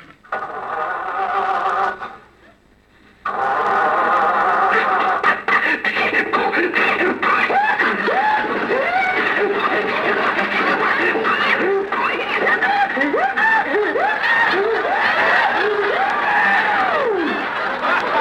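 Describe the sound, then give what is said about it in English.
An old car engine coughs, wheezes and sputters continuously without catching as someone tries to start it, apparently a voice imitating it, with rising and falling groans over a steady rattling noise after a brief pause near the start. “I can't understand that motor. Maybe there's some dirt on the spark plug.”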